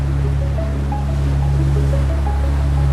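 Ocean waves breaking on a beach make a steady, continuous roar of surf, with a low rumble and some wind buffeting the microphone, fairly loud and with no voices.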